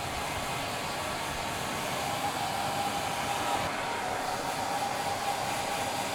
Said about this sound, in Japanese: ドライヤーで乾かしていくわよ。